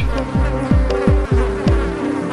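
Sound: fly buzzing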